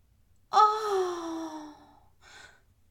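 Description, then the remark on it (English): A single voiced gasping cry of a woman in pleasure, imitated by one person, rises sharply and then trails off slowly over about a second and a half, followed by a short, softer breathy sound. Fairly loud. “As you slip a finger inside her incredibly wet elven pussy, she cries out in pleasure.”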